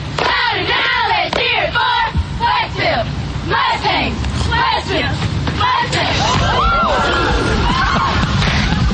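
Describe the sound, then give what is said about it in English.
A large crowd yells a school cheer for Westfield in unison, shouting "Westfield! Mudbay!", loud, with overlapping shouted voices forming a continuous roar of chanting and hollering throughout. “Stand up and yell once more!”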